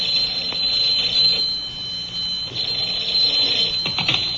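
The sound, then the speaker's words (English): A telephone rings in the Nelson family home just past noon, a shrill, steady high-pitched tone that carries on unbroken for several seconds, with no voices over it. “And just in time to answer the phone, too.”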